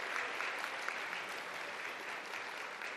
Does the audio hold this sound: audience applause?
yes